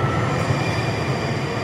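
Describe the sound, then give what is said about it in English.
A train rumbles loudly and steadily as it pulls up to a platform, with deep low-end roar and faint rail noise and no voices. “Train approaching.”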